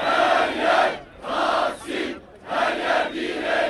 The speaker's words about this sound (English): Everywhere is Taksim, they chanted today. Everywhere is resistance.